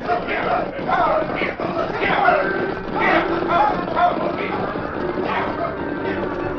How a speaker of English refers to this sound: While the hard-riding cowhands from the KC herded the cattle through the narrow opening into the secluded Fox Canyon, the Lone Ranger drew away and mounted his great horse, Silver.